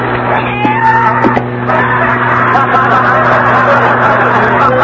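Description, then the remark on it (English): A loud vacuum cleaner drones steadily throughout as it sucks up a cat, whose strained yowls and screeches rise and fall over the motor, with a busy, noisy commotion behind them. “The vacuum inhaled up the cat.”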